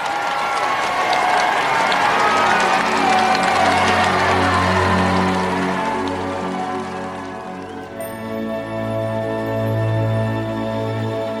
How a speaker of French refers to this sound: Il y a une foule considérable pour l'acclamer le long de la belle avenue du Mall, puis lors de la rituelle apparition au balcon de Buckingham Palace.